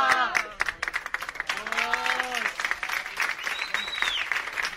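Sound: audience applauding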